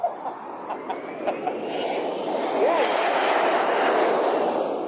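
A broad, rushing roar of a jet airplane taking off builds steadily over several seconds, with a thin rising whine cutting through midway as the engine noise swells and holds loud.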